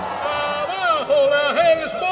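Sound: crowd shouting a chant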